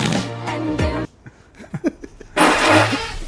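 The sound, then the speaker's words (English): Two loud, raspy fart sound effects from a soundboard blast one after another, separated by a short stretch of quieter murmuring voices and small noises in between. “Yeah, there's a lot of random fart noises now that we have.”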